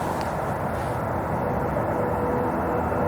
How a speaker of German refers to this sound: Aber jetzt hört man aber den Zug ganz laut in dieser Richtung hier. Ja, da.